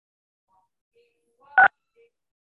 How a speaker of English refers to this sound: if you're using your cell phone, you'll have to hit star six on that to unmute.